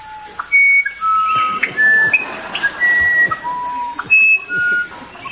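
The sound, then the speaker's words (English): Clear, pure whistled notes at shifting pitches form a wandering musician wren song, broken midway by a harsher parrot call; the wren picks up its phrase where the parrot left off. All over a steady, high insect drone with no talking. “Here comes a parrot.”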